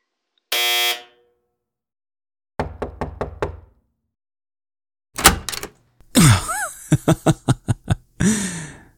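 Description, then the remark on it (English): A single harsh, droning door entry buzzer sounds for about half a second, followed by a burst of four quick knocks and then a louder flurry of rapping and clattering noises. “Can you buzz me in?”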